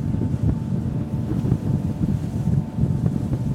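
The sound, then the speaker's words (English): A boat engine rumbles steadily on the water as the boat passes enormous pieces of floating ice and approaches the Ekki Glacier, a low continuous drone with wind buffeting the microphone throughout; no one speaks. “Our boat approaches. The captain cuts the engine, and now it's quiet.”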